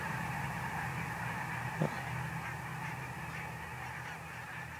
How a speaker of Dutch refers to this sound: Ja, oh, daar komt alles gaat omhoog. Heel veel brandganzen geven een prachtig gezicht. Misschien is er een roofvogel in de buurt. Daar schrikken ze altijd enorm van. Ik zie nu even niks erboven cirkelen. Maar wat een spektakel zeg.